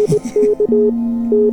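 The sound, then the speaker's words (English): Pure synthesizer tones: a quick run of short electronic beeps gives way to a steady, sustained lower tone, with the higher beep returning briefly over it. Clean and fairly loud, with no voices. “It's just synth. It's just waves.”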